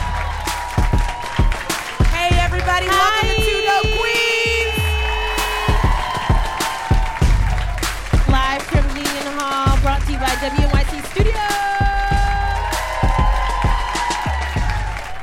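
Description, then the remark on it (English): A live crowd claps and cheers loudly throughout, with dense applause punctuated by sharp individual claps and high, sustained whoops and yells rising over the noise. “My God, you guys are hot. This is a hot crowd.”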